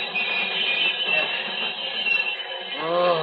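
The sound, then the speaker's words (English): A train rumbles and clatters with a dense, steady roar, then a rising metallic squeal of brakes cuts in near the end as it slows down, loud. “I must bring this train to a stop.”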